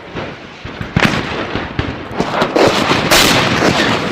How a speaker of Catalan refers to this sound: Perquè el malson pot tornar i torna i ens agafa de ple una pluja de morter.